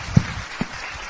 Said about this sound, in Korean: 안 나오시지만 박수를 부탁드립니다.